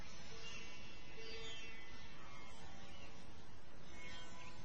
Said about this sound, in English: Even the approaching motor rickshaw.